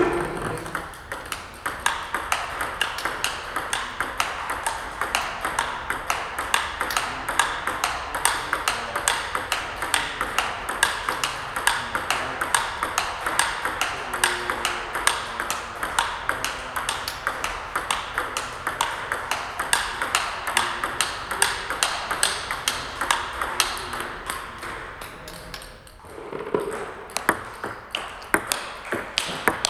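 A table tennis ball bounces on a paddle in a fast, steady stream of sharp, bright taps that runs almost the whole time, with only a brief pause near the end. No one speaks.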